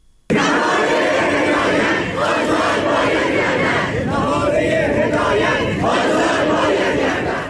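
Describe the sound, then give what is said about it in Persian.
A large crowd of students at Amirkabir Polytechnic University in Iran chants and shouts in protest over unidentified perpetrators and the country's current conditions, a loud, continuous roar of many voices with rising and falling rhythmic swells, starting abruptly after a brief moment of near silence. “دانشجویان دانشگاه پلی‌تکنیک امیرکبیر در اعتراض به نامشخص بودن عاملان آن واقعه و همچنین شرایط فعلی کشور تجمع کردند. دانشجویان معترض از جمله خواهان آزادی بهاری هدایت، سخنگوی پیشین شورای مرکزی دفتر تحکیم وحدت و فعال حقوق زنان شدند.”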